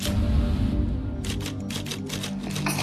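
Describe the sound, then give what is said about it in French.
Typewriter keys clack in a quick, uneven burst of about a dozen sharp strikes, fairly loud over a low steady hum, with no one speaking. “C'est pourquoi j'ai toujours privilégié le papier et la machine à écrire.”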